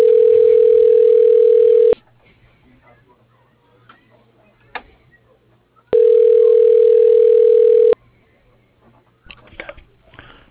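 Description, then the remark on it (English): A telephone ringback tone sounds twice, each steady ring lasting about two seconds with a long silent gap between, loud, as a call is being transferred through an automated company phone directory. “Please hold while I transfer your call.”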